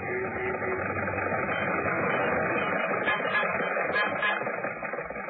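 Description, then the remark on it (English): Jack Benny's old Maxwell car chugs and sputters steadily as it cruises along Hollywood Boulevard, holding up traffic: a loud, continuous rattling drone with uneven clanking pulses running throughout. “And now, ladies and gentlemen, this being the height of the Christmas shopping season, let us leave the studio and journey two blocks north to Hollywood Boulevard, where we find Jack Benny's Maxwell cruising along and holding up traffic as usual.”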